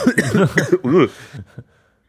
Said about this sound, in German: Ah ja, mein Gott. Muss ich halt ein bisschen husten.